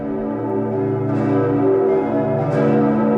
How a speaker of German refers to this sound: Die Glocken des Bremer Doms.